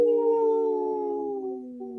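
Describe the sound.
A person gives a long, sustained wolf-like howl during a Native Roots Radio broadcast, in a segment supported by a wolf-protection group. The pitch slides slowly downward over about two seconds, fairly loud and alone with no talking.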